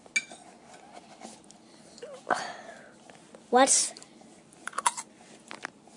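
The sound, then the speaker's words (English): Paper cups crinkle and tap as they're handled, in a few scattered rustling bursts, with a short muffled vocal sound echoing through one partway through. “Hello, do anyone see these paper cups? Well, it sure makes an interesting reverb.”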